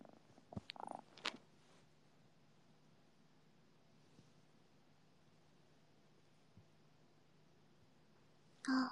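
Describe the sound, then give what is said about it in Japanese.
A cat purrs softly and steadily, a low continuous rumble, with a few brief rustling bumps early on and a sudden handling noise at the very end. “ねえ、猫。猫3が来た。”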